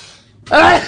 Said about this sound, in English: I'm going to sneeze. Hang on. It's going. No, come back. It's gone. Hang on. Oh no. Hang on.